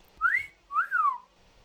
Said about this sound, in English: There's a loud wolf whistle.